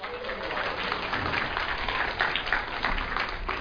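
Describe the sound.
A steady round of audience applause, a dense wash of many hands clapping at an even level for a few seconds, with a faint murmur of voices mixed in.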